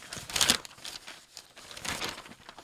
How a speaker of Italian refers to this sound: Bello rumore dei fogli, eh?